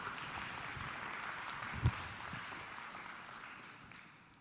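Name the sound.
audience clapping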